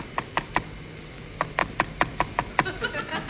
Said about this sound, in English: Something strange is happening. There's a peculiar knocking sound on the windscreen. Seems to be coming from outside the plane.